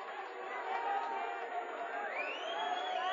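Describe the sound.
A concert crowd keeps up a steady roar of overlapping shouts and calls, with several voices yelling out together at a distance, as if calling for a song.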